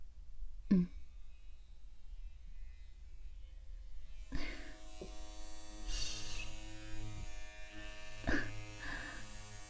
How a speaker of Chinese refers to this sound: 就是感觉这个推子凉凉的，又一直嗡嗡的在脖子上贴着颈窝推上去，弄得人有些酥酥麻麻的。